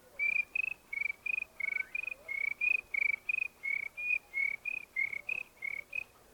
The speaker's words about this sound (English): And making your way back to the house, you might hear crickets.